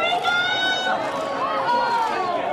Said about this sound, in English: For this, I present a YouTube video of a crowd watching the 2006 eclipse in Libya.